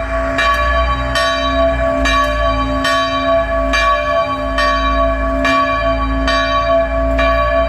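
A small church bell in the commune of Plouguffan near Quimper, cast in 1862 by the local Quimper founder Jean, swings in a steady, continuous short Angelus peal: about a dozen bright strokes with a lingering ringing hum between them, loud, with no voices.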